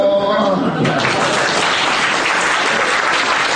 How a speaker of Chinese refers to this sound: 您这是要掌声， 是要别的他们也不给啊？